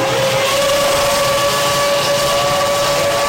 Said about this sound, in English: This is the start of an F1 race.